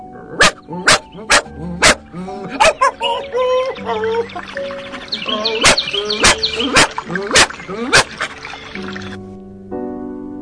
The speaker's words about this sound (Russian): но собачонка и не думала униматься, и только когда он подхватил из-под ног камень, бросилась назад к оврагу.